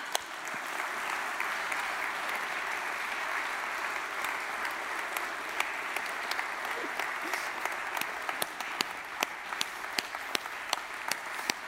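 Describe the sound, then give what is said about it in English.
A large audience of a 2,800-member church applauding steadily, a dense wash of clapping that holds at an even level for the whole stretch, with a few sharper individual claps popping out toward the end. “Could you just keep applauding?”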